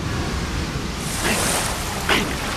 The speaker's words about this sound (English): Swim! Fall back! No! It's no good! The water's rising too quickly!